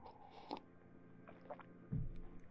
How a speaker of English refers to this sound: Okay, let me take another sip of water here.